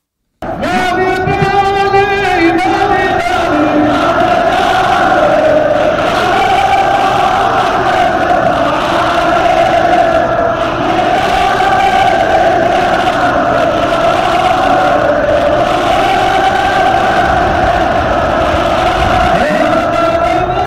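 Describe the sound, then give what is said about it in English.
A large crowd at a rally in Yemen chants and roars together in a loud, sustained wall of voices, rising in rhythmic waves of shouting that continue without a break throughout. “Take a look at this video coming out of Yemen today as reported. Look at that crowd of people.”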